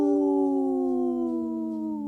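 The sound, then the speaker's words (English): A person on the radio show Native Roots Radio imitates a wolf's howl: one long, steady, loud tone that glides slowly downward in pitch over about two seconds, with no talking. “The Howl called my dog over here, so she's ready to join the pack.”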